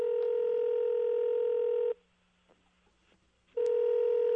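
Telephone dialing tones: a steady electronic beep holds for about two seconds, cuts to near silence, then sounds again. Clear and fairly loud, with no voices.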